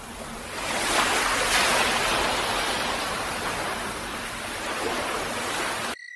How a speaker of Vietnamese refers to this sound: Tôi có thể nghe bao âm thanh hòa nhịp của sóng biển ầm ầm dồn dập, tiếng gió rít vi vu, tiếng lửa nổ vang tí tách, và tiếng hòa đồng hợp xướng của 84.000 con ếch nhái trong cái vũng đầm ở phía sau chúng tôi.